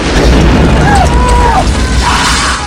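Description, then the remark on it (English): Loud explosions, set off after a fire at an alcohol table ignites a fuse, roll into one another in a continuous deep, booming rumble with no pause, while faint wavering cries or voices rise briefly above the din. “A fuse ignites off the table, more explosions consume nearby thugs and hunters.”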